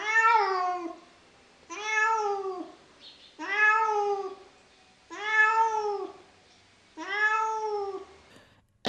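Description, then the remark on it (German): A cat meows plaintively five times, each cry long and drawn out, coming at a steady pace, clear with nothing else in the background. “Es dauerte nicht lange, da saß eine Katze am Wege und machte ein Gesicht wie 3 Tage Regenwetter.”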